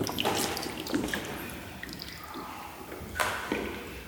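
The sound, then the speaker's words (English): Shallow water in a cave sloshing and trickling, with a few sharper splashes and drips standing out at irregular moments against a steady wet, hissing background. “This water is all shallow.”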